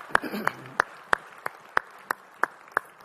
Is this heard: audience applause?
yes